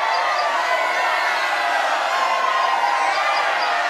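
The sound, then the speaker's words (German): A crowd cheers in a loud, continuous roar, a dense wash of many voices that stays steady for the full few seconds without any clear speech. “Jubelnd begaben sich alle auf den Heimweg.”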